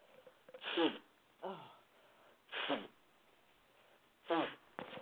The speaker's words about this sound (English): If you'll excuse me one second, I'm going to cough. This is a live show, and I can't delete it. So that proves it's a live show. Excuse me.